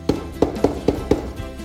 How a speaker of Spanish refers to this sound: De repente apareció el lobo por allí y llamó a la puerta del cerdito más pequeño.